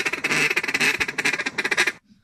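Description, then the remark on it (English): A duck quacks loudly and rapidly, a fast, stuttering run of harsh nasal quacks for about two seconds before abruptly stopping, with no one talking. “That's a duck actually doing a tap dance, you know, like that.”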